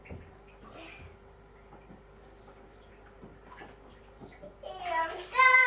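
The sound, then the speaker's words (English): Quiet handling sounds and soft taps give way to a short splash of water being poured onto a sunflower, growing louder near the end, with a voice briefly joining in. “I'm going to water it again. It's a sunflower and I want it to get massive. There we are, water my sunflower.”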